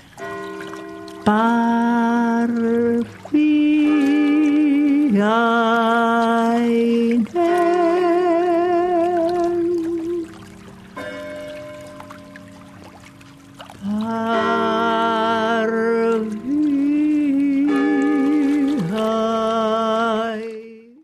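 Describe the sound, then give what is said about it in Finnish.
A voice imitates the bells of the church in Jyväskylä, donated in 1884, singing long, steady tones that step between a few pitches in a repeating interval pattern, fairly loud and without other sounds. “Minun lapsuudessani kerrottiin, että kirkon kellojen kauniissa intervallissa voi kuulla lahjoittajan nimen jotenkin tähän tapaan.”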